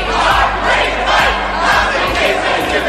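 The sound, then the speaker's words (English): A large crowd chants loudly and steadily inside Seattle City Hall as council members prepare to vote on a head tax, voices echoing and blending into a dense roar, with dull drum thumps landing roughly every half second underneath. “Drum beats and chants are echoing through Seattle City Hall right now as council members get ready to vote on a controversial head tax.”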